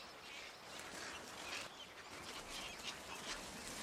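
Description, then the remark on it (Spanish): A continuous, dense din of many egrets calling at once, harsh squawks and chatter overlapping steadily without pause, from a breeding colony of hundreds or even thousands of pairs building nests in dense riverside woodland. “Cientos e incluso miles de parejas de garcillas se afanan en construir sus nidos. El resultado es un continuo bullicio.”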